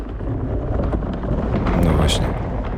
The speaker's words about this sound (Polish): Tak brzmi wiatr i saneczki sunące po lodzie przy 120 km na godzinę.